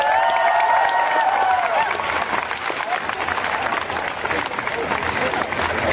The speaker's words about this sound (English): Unfortunately, the audio is clipped, so we don't get Nicholas Brendan's introduction, but we will start with the applause for Nicholas and proceed from there.